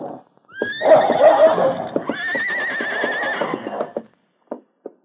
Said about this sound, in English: Hey, something's bothering the horses out in the shed. They're setting up a rumpus.